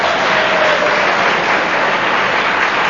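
A crowd claps steadily throughout, a dense, loud wash of many hands with no clear individual beats and no voices on top.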